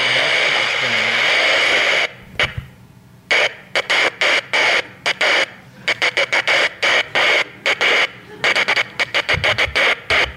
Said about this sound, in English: I have this crank on this radio, just so I don't have to keep buying the batteries, that's all. So it's one of those old radios that you crank for the power, and you got it hooked up to what? He's got it hooked up to one of those Morse code things.